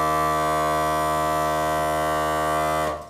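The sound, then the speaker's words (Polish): The drone pipe (bąk) at the back of a kozioł ślubny, a wedding bagpipe made of white goatskin, hums one steady, buzzy low pitch rich in overtones. It holds unchanged for nearly three seconds before cutting off abruptly. No voices are heard. “Z przodu mamy przebierkę, z tyłu znajduje się bąk, który wydaje jednostajny, charakterystyczny dźwięk.”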